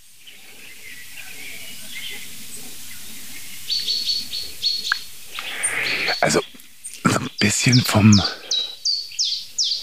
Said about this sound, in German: vom Gefühl her klingt es wie eine Eule.